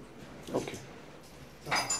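Keys jangle in a prison in two short metallic bursts, bright clinking rattles separated by a quieter pause, heard over a faint low background hum with no talking.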